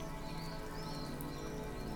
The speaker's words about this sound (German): Die Sonne scheint, alles ist angenehm ruhig und in Harmonie. Aber plötzlich höre ich aus der Ferne Donnergrollen.